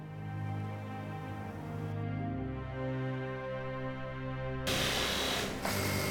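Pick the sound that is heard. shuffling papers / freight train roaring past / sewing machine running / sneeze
sewing machine running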